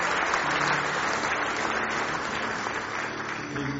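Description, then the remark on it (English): An audience gives one more hand clap of praise to the Lord in the morning, a dense, sustained burst of applause at a steady loudness for several seconds, with faint voices mixed in. “Give me one more hand clap of praise.”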